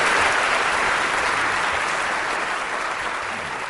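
An audience at the Be Thinking conference claps in a steady, dense round of applause, a broad hiss of many hands that holds strong throughout and eases slightly toward the end, with no voices over it.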